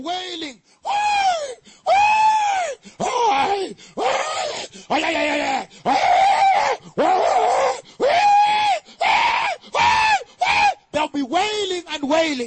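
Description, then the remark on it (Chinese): Anguished human wails and screams of people in fire rise and fall in a steady run of about a dozen loud, drawn-out cries, one after another with brief gaps, intense. “在那有这样的哀哭，这样的喊叫，这样的哀嚎。”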